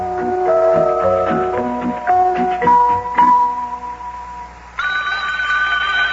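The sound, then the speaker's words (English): A few seconds of bright melodic tones give way to a loud, steady, buzzy telephone ring in a home in Cincinnati that starts abruptly near the end and continues unbroken, with no one speaking. “and just about the time we had given up hope of learning anything new, the telephone rang.”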